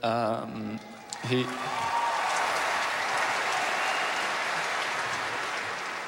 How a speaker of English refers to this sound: Oh, listen to the crowd.